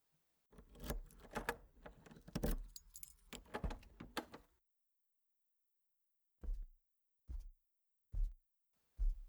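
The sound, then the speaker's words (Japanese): A spare key jangles and scrapes in a door lock for several seconds, fairly loud, then silence followed by four evenly spaced soft thuds, like footsteps entering. “いないみたいだから合鍵使わせてもらったよ。”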